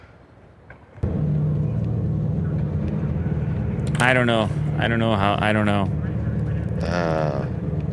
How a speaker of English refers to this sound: They're amplifying a sound that is normally basically silent to your ears. But that sounds like a gas-powered engine. Now it does.